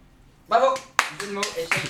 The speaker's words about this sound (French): Bravo. J'applaudis, je suis une fille.